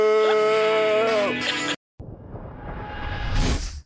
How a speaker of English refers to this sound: And a bunch of cows who were just mooing.